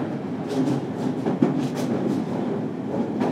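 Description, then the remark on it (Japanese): Steady rumble of a Seibu Line express train bound for Ikebukuro rolling along rails, with next stops Hibarigaoka and Shakujii-koen, with rhythmic clatter and faint hiss at a constant moderate level with no voices. “This is the express train bound for 池袋。”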